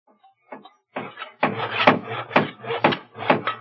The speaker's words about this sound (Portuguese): Que é aquilo? Estás ouvindo bem? Parece alguém construindo uma casa, não é?